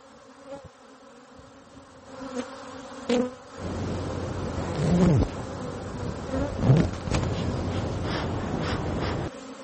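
Honeybees from rooftop hives on the roof of the Hilton hotel at Sixth Avenue and 53rd Street in New York City buzz in a dense droning hum that swells after a few seconds and holds steady, with individual bees swooping past and fading again.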